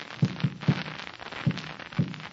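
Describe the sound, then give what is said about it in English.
Answering Morse code taps on a wall, signalling SOS: about five dull, low knocks in an uneven pattern, a quick pair, a third, then two more spaced apart, over a faint steady hiss with no voices. “That was the signal SOS.”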